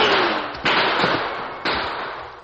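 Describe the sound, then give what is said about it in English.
Two or three sharp gunshots as outlaws fire point blank into a stagecoach, ringing out over a steady, loud wash of hissing noise, spaced roughly half a second to a second apart, with no voices. “while the others fired point blank into the coach, raking the interior from one side to the other.”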